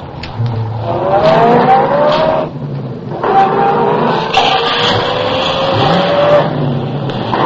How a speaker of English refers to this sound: I had been spotted. The chase was on. I pushed the accelerator to the floor and drove for all I was worth.